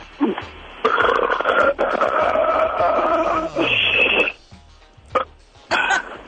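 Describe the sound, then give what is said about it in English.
A woman burps on command: a series of loud, drawn-out burps, one long and gravelly followed by shorter croaking bursts with brief pauses between them. “I can burp on command.”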